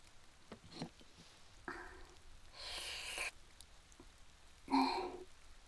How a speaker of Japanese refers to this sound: 雨も降って、ちょっと肌寒いわね。